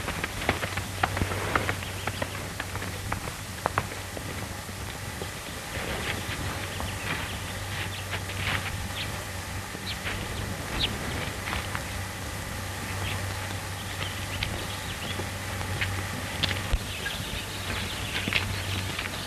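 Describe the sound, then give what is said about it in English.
Hooves of a saddled horse being ridden clop unevenly and continuously at a walking pace, over a steady low hum and soft background hiss, with no voices. “Thanks for saddling my horse for me”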